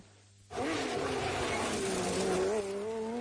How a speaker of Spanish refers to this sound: Ya rugen los motores en Gran Canaria. Llega la 40 edición del Rally Islas Canarias, El Corte Inglés y COPE Canarias.